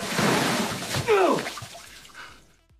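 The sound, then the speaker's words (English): Yellowish water gushes and sprays out of the top of a toilet in a loud, hissing rush that gradually fades. Midway, a voice gives a short rising and falling cry over the noise. “That water shoots out of the top of the toilet.”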